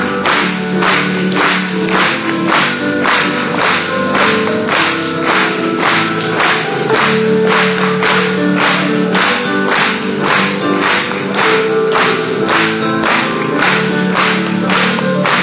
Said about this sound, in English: Let's clap for joy.